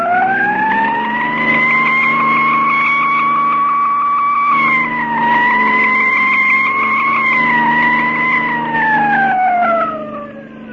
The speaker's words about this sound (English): Step on that siren, Mark, and drive.